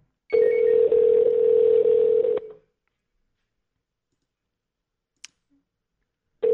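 A phone call to a store rings out with a steady electronic ringback tone lasting about two seconds, then a long silence before the next ring begins, and nobody picks up. A faint click breaks the pause.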